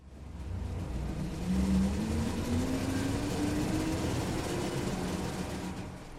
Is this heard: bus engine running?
yes